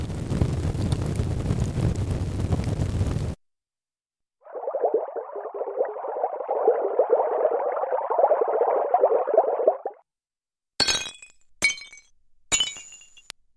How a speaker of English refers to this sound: First one was a fire, right? The second one, a bubbling brook. And the third one is something breaking, right? Easy. None of these sounds, though, are real. None. They've all been created by a computer.